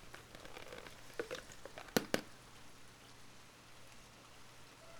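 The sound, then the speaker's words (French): Paintbrushes swished and tapped in a small tobacco pot of water in a painter's workshop-boutique, Tout Bleu, on place de la Maillade in Royères, with soft splashy patter followed by two sharp clinks against the rim, then quiet trickling. No one speaks. “Et donc, je m'en sers aussi pour mettre de l'eau. Et puis. Pour pouvoir rincer mes pinceaux tranquille.”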